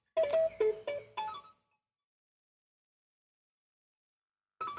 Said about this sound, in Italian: c'è un'altra telefonata.